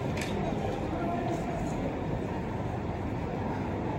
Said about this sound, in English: All right, guys, so this is a train station in here, okay? This is a train station, right?